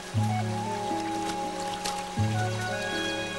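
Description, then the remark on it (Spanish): A steady, continuous rush of flowing river water, crossed by a boy at a ford made of stone slabs, fills the background, while low sustained musical notes swell over it twice. No one speaks. “Cruza el río por un vado hecho con losas de piedra.”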